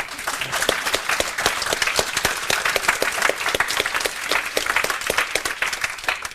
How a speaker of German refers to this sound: Also mal hier für die Entwickler bitte verhaltenen Applaus.